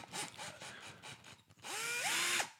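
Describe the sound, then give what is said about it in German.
A cordless screwdriver motor whirs in a quick series of short bursts, then runs steadily for under a second, its whine rising in pitch before holding level and cutting off. “Ein Akkuschrauber.”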